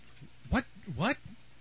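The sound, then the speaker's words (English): A cat meows twice: a short, sharp call followed by a longer, drawn-out meow that rises and falls in pitch, with a faint hum underneath. “Kitty's saying damn long-haired hippies.”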